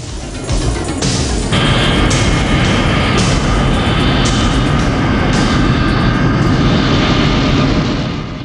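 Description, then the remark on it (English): An airplane roars loudly and continuously, swelling after a brief moment, as it accelerates down an airport runway and takes off with a man clinging to its landing gear, with a steady whining engine tone and heavy rushing noise throughout. “The plane takes off with John hanging on for dear life beneath it.”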